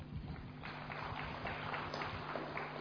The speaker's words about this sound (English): It's a very royal clap. Yeah, beautiful.